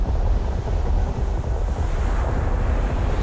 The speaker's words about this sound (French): Des vagues. D'énormes vagues vont naître, des montagnes d'eau vont se soulever, coincées entre les deux montagnes. Et comme elles sont coincées, elles vont prendre des proportions énormes.